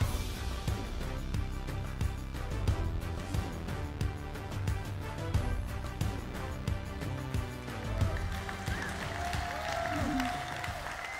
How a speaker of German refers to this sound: Ich würde sagen, wir haben diesen Applaus jetzt nicht diesen irdischen Josef Müller, sondern unserem Herrn gegeben, weil was alles möglich ist, ist schon unglaublich, okay?